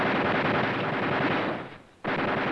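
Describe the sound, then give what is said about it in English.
Heavy, sustained gunfire sprays the woods, rattling in a dense, rapid stream of shots, briefly thinning out into a short lull before the loud barrage abruptly resumes. No voices are heard. “Most likely they're just spraying the woods, in case.”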